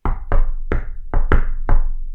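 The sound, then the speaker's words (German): Six loud knocks on a wooden tabletop, tapping out the rhythm of the Super Mario Brothers theme in an uneven, tune-like rhythm with short and long gaps between them. No one speaks. “Für mich klingt das nur nach einem Vollidioten, der auf den Tisch klopft.”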